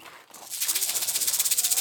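A snake's dry, buzzing rattle starts abruptly after a brief quiet moment and holds steady and loud, a rapid pulsing hiss that continues to the end with no voices.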